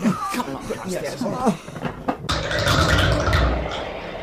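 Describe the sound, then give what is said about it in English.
Agitated voices give way to a loud burst of rattling, thudding and scraping as a locked bathroom door is forced open, lasting about two seconds. “This time, the bathroom door was locked, so we forced it open”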